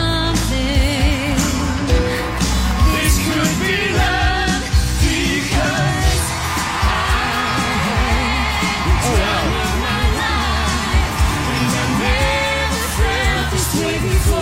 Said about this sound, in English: and then she did the lift with one of the Savannah Banana players, and you'll hear the exact moment when the lift occurred because everybody started cheering.